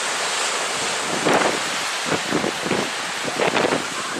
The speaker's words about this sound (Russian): Тут обрыв, высокий берег. И океан такой, знаете, волнуется. Волнуется.